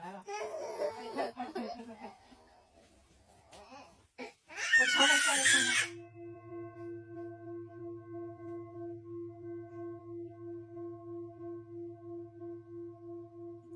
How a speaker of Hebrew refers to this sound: תינוק בוכה ומשמיעים לו קערה טיבטית. תראו איזה יופי.